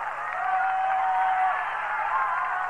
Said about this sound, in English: They're standing and rooting for a third strike.